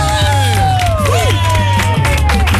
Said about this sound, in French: Applaudissements pour la première auditrice de la matinée,